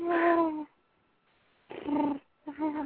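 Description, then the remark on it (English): A person mimics a cat's purr, making three voiced, rumbling bursts: a longer one, a pause of about a second, then two shorter ones in quick succession. “So you purr?”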